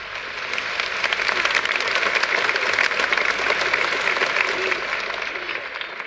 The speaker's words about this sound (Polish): Moi drodzy, ja już od wczoraj myślę nad tym, co znaczą te oklaski.